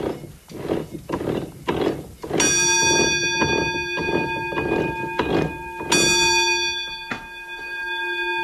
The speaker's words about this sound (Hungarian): De előbb meghallottuk a vízikeréknek a szapora zaját, mint a csöngőt.